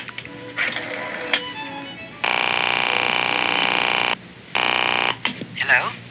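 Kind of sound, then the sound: household object, telephone being dialed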